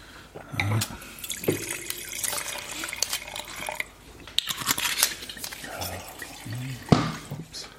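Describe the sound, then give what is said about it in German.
Lemberger red wine is poured into glasses in a steady, gurgling stream, with a few sharp clinks and brief pauses between pours. Low murmuring voices sit underneath. “Ja, dann bringen wir einfach noch Rotwein dazu.”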